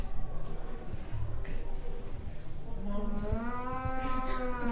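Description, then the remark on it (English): A person imitates a cow, letting out one long, low, drawn-out moo partway through, fairly loud over a noisy background. “Soon, however, they heard the crying of their cows.”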